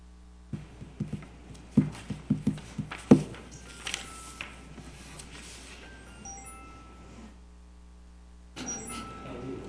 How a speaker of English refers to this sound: I hear footsteps.